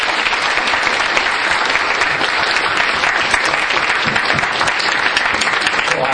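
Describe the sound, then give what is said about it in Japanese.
An audience applauds steadily for about six seconds to thank a speaker for a talk, a dense, even wash of many hands clapping at a constant loud level with no voices standing out. “大変、貴重なお話ありがとうございましたということで、拍手を。”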